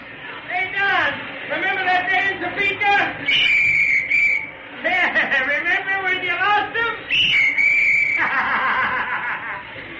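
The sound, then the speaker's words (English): Two short, shrill whistle blasts, about a second each and a few seconds apart, cut through a busy stretch of voices, snickering and laughter. The whistle is loud. A big man leaning out of a baseball dugout blows a little whistle in the sixth inning of a game against the Yankees. “But now with our pitcher up, the big fellow suddenly leaned out of the dugout and blew a little whistle.”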